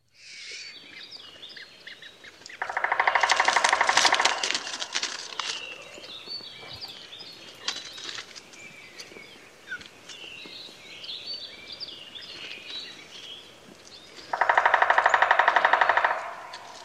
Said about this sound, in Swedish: jag tänkte det bara kunde vara roligt att höra hur det låter, för att man brukar ju säga att de då, treto och hackspett, låter som en avbruten spillkråkevirvel.